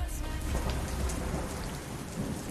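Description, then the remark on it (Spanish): Heavy rain pours down steadily during a football World Cup final award ceremony, a dense, constant hiss of drops hitting surfaces with a low rumbling undertone, loud throughout with no voices. “Y en la ceremonia de premiación, cuando va a recoger Francia el título mundial, cae una lluvia tremenda y el servicio secreto ruso tiene que hacer una importante operación.”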